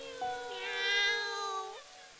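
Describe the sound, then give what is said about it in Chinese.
A single drawn-out cat meow, clear, lasting over a second with a slight rise and a dip at the end, heard alone with no talking. “喵儿，你喺咪度啊？”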